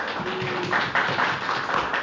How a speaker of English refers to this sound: You guys are good. Round of applause for the kids.